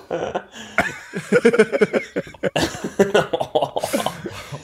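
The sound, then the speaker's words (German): A prolonged coughing fit: harsh, rapid bursts follow one another almost without pause for several seconds, with a few raspy, throat-clearing gasps mixed in. “Ey, du, was mit dir? Ja, du Hustgeburt, Alter.”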